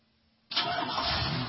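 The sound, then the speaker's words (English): After a moment of near silence, a car engine abruptly cranks to life and settles into a loud, steady rumbling roar that continues to the end, with no voices. “Hear that? That's the sound of one driver.”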